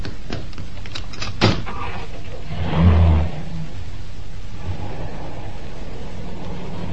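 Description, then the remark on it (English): A sharp latch click, then a heavy, dull thud about a second later as a car door opens and shuts while the passenger gets out to take over driving, over a steady low engine hum with no talking. “Oh, don't bother to get out. I'll get out my side.”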